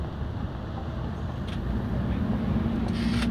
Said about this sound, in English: Look out, there it is. It has four wheels and a door which people can get on and off. Here it is, the bus. Some can be electric or old. Here we go to Oxford on the bus.